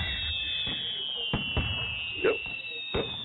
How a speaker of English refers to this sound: It'd be like fireworks. Yep. Wow. Boom.